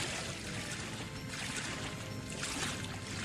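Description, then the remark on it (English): Steady rushing and splashing of water as a boat is paddled along at an even pace in a game, with a couple of swelling surges of spray and no voices. “Oh, this is nice. We're just paddling this boat here.”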